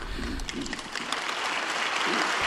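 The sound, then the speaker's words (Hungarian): A crowd of faithful and pilgrims in a hall applauds steadily in reply to Pope Francis's greeting before his catechesis, a dense crackling wash of many hands clapping at once that holds a constant level throughout, with a few muffled voices faintly underneath. “És már is tapsal válaszol a Szentatya köszöntésére a 6. páteremben jelenlevő hívők, zarándokok közössége.”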